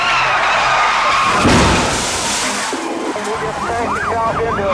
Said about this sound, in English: Tires screech across pavement. The driver loses control, and the station wagon ricochets off a tree like a one-ton bullet.